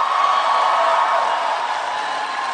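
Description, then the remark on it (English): Loud, sustained applause from a large crowd at the Conservative Political Action Conference for Senator Rand Paul of Kentucky after a speech about the NSA, a dense steady wash of clapping that fills the whole stretch with no break and no voices standing out. “Huge applause for Rand Paul, Senator Paul of Kentucky, a speech almost entirely about the NSA and what he sees as its infringement on the rights of Americans, that at the weekend Conservative Political Action Conference.”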